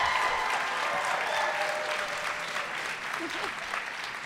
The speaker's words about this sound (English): I think it means something that there's not a huge number of people clapping, but they clapped very loudly.